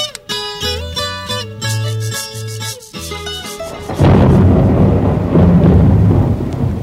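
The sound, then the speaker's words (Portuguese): A short musical jingle plays, then gives way to a loud thunderstorm: heavy rumbling thunder rolls over a steady wash of rain noise for the last few seconds, with no voices. “Nossa, que tempestade, hein?”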